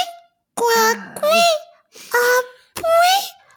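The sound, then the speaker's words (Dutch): Four short, squeaky, high-pitched bursts in a row, suppressed sneezes that come out as little seal-pup squeals, fairly loud, with brief pauses between them. “Ja, een Tamagotchi-zeehond die niest.”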